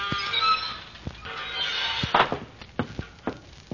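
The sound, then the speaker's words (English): A front-porch swing in The Great Gildersleeve, in need of oiling, squeaks in two long, high, whining strokes, followed by a few scattered wooden thunks and short creaks as it settles. There is no talking. “It squeaks.”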